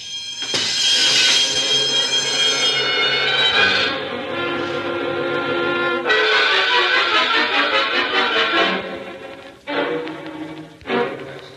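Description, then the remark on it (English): A burglar alarm bell, set off when someone stepped on the alarm, rings loudly and continuously: a harsh metallic clangor full of bright overtones, with a couple of brief breaks near the end. No one speaks. “Aren't you the cute when you stepped on the alarm?”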